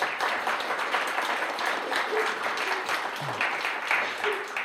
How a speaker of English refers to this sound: There's a mighty group of prayers in this place. Amen. Give them a big round of applause for praying.